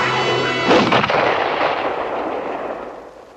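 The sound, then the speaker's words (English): A single sharp rifle shot, fired at a wolf fighting the dog Old Yeller, cracks out after a low, steady hum, then its loud blast rolls and fades slowly over the next few seconds. “Travis lowers the rifle, unsure of his aim.”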